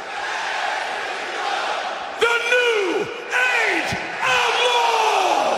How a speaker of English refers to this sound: Putting the mic out so the crowd could finish it.